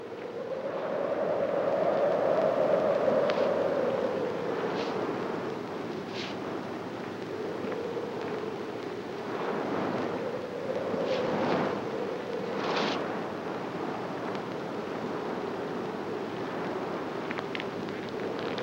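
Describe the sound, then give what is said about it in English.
Wind blows steadily in a low, hollow rush that swells early on, then settles, with brief scraping shuffles of a man's dragging feet scattered over it, in a film scene. No one speaks. “are repeated here, the sounds of the train whistle, the blowing wind, and the sound of Joe's dragging feet.”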